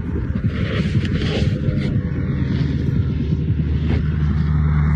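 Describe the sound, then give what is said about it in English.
A muffled car passes, recorded with a phone put to the ground: a steady, deep engine rumble heard as if through the ground, droning continuously for several seconds with faint hissing texture above and no voices. “That's a car.”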